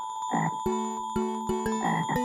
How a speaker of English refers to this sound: Stop! Listen. What's that? It's a frog.